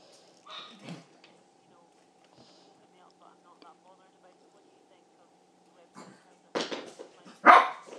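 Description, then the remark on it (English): A dog barks sharply, once early on and then in a quick loud cluster of three or four barks toward the end, over a faint steady hum with a quiet pause between. “Sorry, the dog.”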